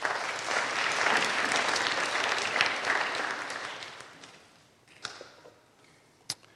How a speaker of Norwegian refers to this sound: La oss gi han en applaus.